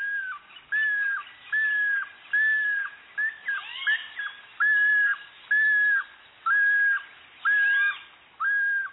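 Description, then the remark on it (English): Anis calling: a steady series of about eight loud, slurred whistled notes at a regular rhythm, with softer overlapping chirps and rising calls mixed in midway. No one speaks. “When the dominant female Ani begins to lay her own eggs, the other females lay simultaneously.”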